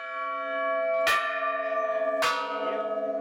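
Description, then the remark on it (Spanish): Church bells in Colombian dioceses peal in memory of Pope Francis, with two strong strikes about a second apart, each ringing out into a sustained, shimmering hum of overlapping tones that never fully fades. No voices are heard. “Durante estos días ha habido repique de campanas en las diócesis, misas por el alma del Papa Francisco”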